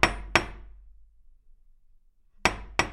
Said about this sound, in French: C'est alors que quelqu'un frappe à la porte.